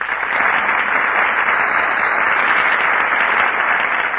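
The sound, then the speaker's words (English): Sustained applause from a large radio studio audience for Alice Faye, Herbert Marshall, and Humphrey Bogart as they enter the Gulf Theater stage, a dense, steady wash of clapping that stays loud and even for several seconds with no voices over it. “That applause you hear, ladies and gentlemen, is for Alice Faye, Herbert Marshall, and Humphrey Bogart, who are just entering our Gulf Theater stage.”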